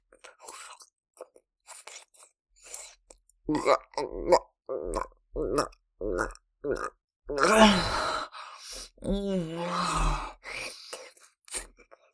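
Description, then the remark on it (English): Rapid breathy panting in short uneven bursts, broken by low voiced grunts and groans that grow louder and strained toward the end, with no clear words. “I can hear you panting and grunting, Daddy.”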